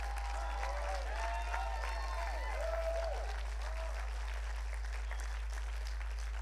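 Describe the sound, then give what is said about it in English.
A crowd at a sermon claps steadily and shouts in praise of Jesus, scattered voices whooping in rising and falling cries, loudest in the first half, then the cheering fades and the applause carries on alone. “That is someone we should clap and shout for, because he is.”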